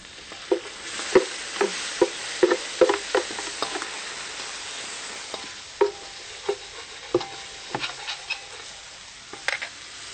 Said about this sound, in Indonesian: Ya, ditumis sampai harum, nanti baru ditambahkan bahan-bahan lain ya.